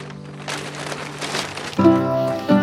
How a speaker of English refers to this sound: Wearing the gray flannel, he sets a folded t-shirt and toothbrush on top of pajama pants, then packs them into a paper grocery bag with a pair of leather slippers.